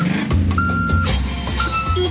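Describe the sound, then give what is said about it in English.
A delivery truck's engine rumbles while high electronic reversing beeps sound in long, repeated tones over the steady motor noise. “Can you hear that? That's the sound of truckloads of new entertainment being delivered on Foxtel.”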